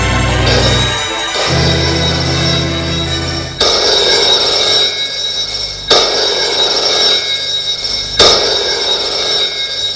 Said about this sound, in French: Le lendemain matin, Harold est dans son bureau. Le téléphone sonne.